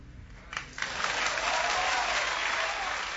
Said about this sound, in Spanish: Al final vamos a aplaudir, ¿eh?, todos juntos.